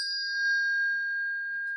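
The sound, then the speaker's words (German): A single bell rings out to call people to dinner, with a clear, sustained metallic tone that hangs steadily and slowly fades, alone with no voices over it. “Oh, die Glocke. Lass uns zum Abendessen gehen.”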